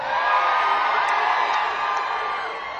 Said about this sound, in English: Sexy people, let me hear you scream.